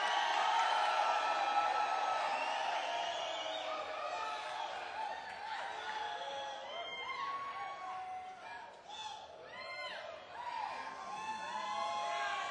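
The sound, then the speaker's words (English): A concert audience yells, whoops and cheers continuously for an encore from a singer, a dense roar of many voices with higher shouts and whistles rising out of it, loud and sustained throughout. “If you yell and scream real loud, we might be able to get the wonderful … back out here one more time.”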